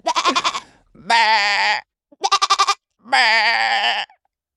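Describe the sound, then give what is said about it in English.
A person imitates a goat with four loud bleats, alternating quick stuttering 'meh-eh-eh' bursts with longer, drawn-out wavering cries, separated by short pauses. “You know what mine sounds like? You know, those crazy goats you get on the video. They're like, bah!”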